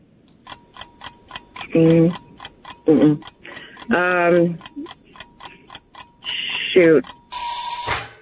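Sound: quiz time-up buzzer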